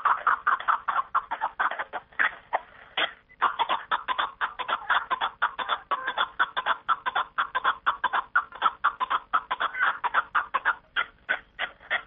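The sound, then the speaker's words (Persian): A Caspian snowcock calls in a long run of rapid, repeated clucking notes, steady, pausing briefly once before the chattering series carries on to the end. “نه تنها از جانب جنگلبانان حفظ می‌شده است، بلکه به قول آنها در پنجکین نفرانی هم بودند که به رام و پرورش کپک دری مشغول بودند.”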